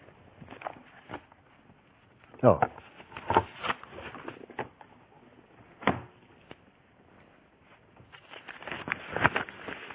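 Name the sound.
rustling papers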